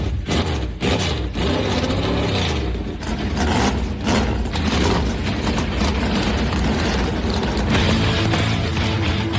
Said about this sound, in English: Drivers, start your engines! The command has been given. Let's crank him up.